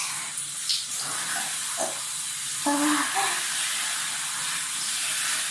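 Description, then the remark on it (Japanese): A shower sprays steadily from start to finish at very strong water pressure, a dense hiss of running water with a brief faint tonal murmur rising near the middle. “このシャワー水圧が勢いがすごい強いです。”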